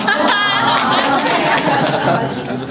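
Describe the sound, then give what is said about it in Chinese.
A group, with the wives among them clapping, bursts into steady applause, many hands clapping at once in a dense, loud patter, with lively chatter and a few laughs mixed in throughout. “我今天太太都在鼓掌。”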